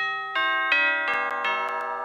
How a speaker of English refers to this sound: Ding dong. Ding dong, ding dong, ding dong. Ding dong, ding dong, ding dong. Ding dong, ding dong.